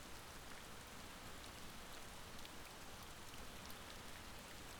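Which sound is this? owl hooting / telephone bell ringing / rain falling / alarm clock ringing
rain falling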